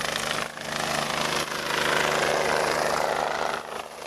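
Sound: helicopter flying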